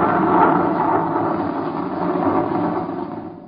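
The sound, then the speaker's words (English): A loud, sustained roll of thunder from a lightning strike that knocked out a new power transmission line rumbles steadily for several seconds, a dense low roar with no sharp crack or break, and no voices. “That new transmission line to Elector. It's been knocked out by lightning.”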